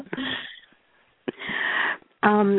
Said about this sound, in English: excuse me, just one second, I need to cough.